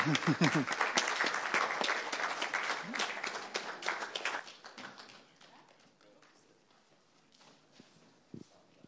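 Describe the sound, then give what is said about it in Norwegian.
An audience claps for group 4 as they go down the stairs, in a dense, loud burst that gradually thins out and fades to scattered claps, with some voices underneath and a few final isolated taps. “Da klapper vi gruppe 4 ned trappa.”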